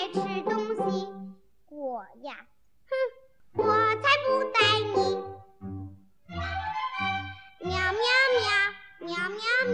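A voice imitates a little cat singing, meowing in drawn-out, sing-song phrases: several loud calls with short pauses between them, rising and falling like a tune.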